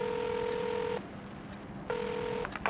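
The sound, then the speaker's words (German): Outgoing phone call tones from a mobile phone calling an app developer: two long, steady electronic buzzing beeps separated by a short pause, with a faint click at the end, no voices present. “Er tippt auf den ersten Namen in einer langen Liste von App-Entwicklern.”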